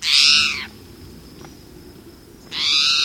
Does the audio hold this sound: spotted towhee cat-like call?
yes